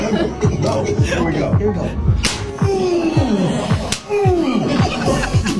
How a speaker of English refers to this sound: Man, I can't wait to slap you in the face with a tortilla.